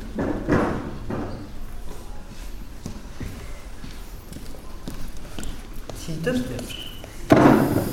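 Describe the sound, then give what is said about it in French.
A chair is carried over and set down in a large vacant lot with shrubs and poorly cut grass on a chilly Sunday morning: scattered wooden knocks and footsteps, then a louder thud near the end, while voices murmur faintly in the background. “tu peux apporter une chaise, s'il te plaît?”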